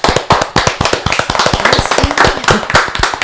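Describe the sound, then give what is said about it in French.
Loud, sustained applause from a show audience for returning members of a music group, with many hands clapping at once in a dense, irregular patter that stays steady for about three seconds. No one speaks. “Et là, on les applaudit très fort.”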